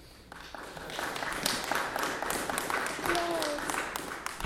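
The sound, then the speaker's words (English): An audience claps steadily at the end of a live comics panel in a dense, even patter that holds for several seconds, with a brief whistle-like tone and murmuring voices mixed into the applause. “We can keep those applause in there.”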